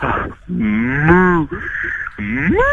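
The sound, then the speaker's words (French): A person imitates a cow, letting out three drawn-out, wavering moos in a row, loud, with brief gaps between them and the last one rising in pitch. “Je veux un dernier cri de vache, mais je vais te voir.”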